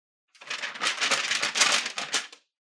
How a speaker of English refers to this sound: it's not all that helpful to just stand there rustling papers.